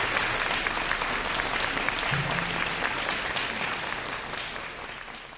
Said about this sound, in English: Can we have another round of applause, please, for Mr. Shinji Uesu?